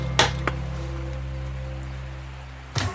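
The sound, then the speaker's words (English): A door knocker on the door of a hut strikes twice in quick succession, then once more after a pause of a couple of seconds, each rap sharp and short over a steady low droning hum, in the rain. “He's even got a really nice knocker, listen to that.”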